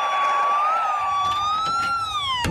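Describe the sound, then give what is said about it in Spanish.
A police patrol car siren wails loudly and continuously as the car comes straight toward the listeners, its pitch sliding slowly up and down, with a few faint clatters in the background and no voices. “Eso sí es un patrullero y viene directamente hacia nosotros.”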